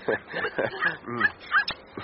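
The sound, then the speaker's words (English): A dog that has slipped its leash whimpers and whines in a string of short, high, wavering cries, five or six of them in quick succession, fairly loud and uneven in rhythm. “My doggy just slipped his leash.”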